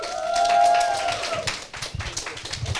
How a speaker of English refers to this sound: So everyone give Janice and Stephen a round of applause.